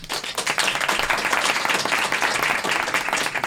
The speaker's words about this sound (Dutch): Geef ze een warm applaus.